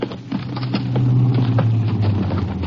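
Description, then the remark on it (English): A car engine drones low and steady, swelling louder as the vehicle approaches and then turns around, with faint rattles and road noise on top and no voices. “And there's a car coming now”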